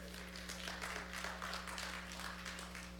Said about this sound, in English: Glory. Clap your hands if you love them.